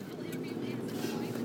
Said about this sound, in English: We just went off road for a little bit. Yeah, I'm in a truck. Did you guys see that, or can you hear it?